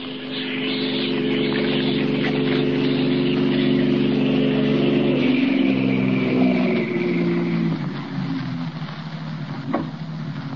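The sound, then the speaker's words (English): A car engine rumbles steadily as the vehicle comes up the street, its low tones shifting and dropping in pitch as it passes and fades, with no one speaking. “Joe, a car coming up the street.”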